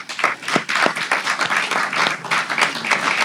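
An audience applauds steadily, a dense patter of many hands clapping at moderate loudness throughout, with no talking over it.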